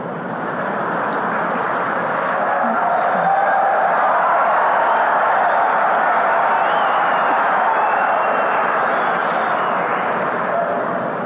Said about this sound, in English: Sounded like the men that were cheering on that one.